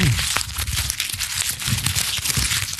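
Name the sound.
paper being crumpled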